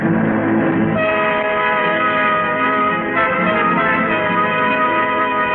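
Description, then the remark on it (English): A train rumbles loudly while its horn blares in long, sustained tones with shifting pitches, staying strong and steady throughout with no voices. “I'd stopped the train.”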